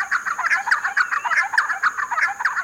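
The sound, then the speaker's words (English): Giant wrens, birds of a small area of Mexico and Guatemala, give raucous, chattering calls, harsh notes tumbling out in quick overlapping bursts from what sounds like several birds, steady throughout with no voices. “Far from shy, they call raucously as they chase one another through open woodlands.”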